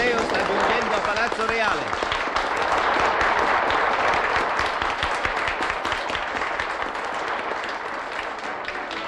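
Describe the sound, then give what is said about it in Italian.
Loud, sustained, frenzied applause from a large crowd as the sovereigns enter the royal palace through the great gate, dense and continuous throughout, with voices shouting and cheering mixed into the clapping. “Entra in palazzo dal gran portone tra gli applausi frenetici della folla.”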